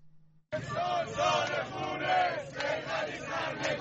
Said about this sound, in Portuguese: Este é o ano de sangue, gritam manifestantes em Teherão enquanto os militares avançam pelas ruas da cidade.